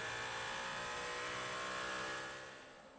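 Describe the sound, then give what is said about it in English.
The engine of the blue-fronted number two Cadillac race car, driven by Earl Bamber, roars past on the racing circuit at high revs, a steady loud whine with dense harmonics that fades slightly as it moves away near the end. “Blue-fronted Cadillac out on the racing circuit for Earl Bamber.”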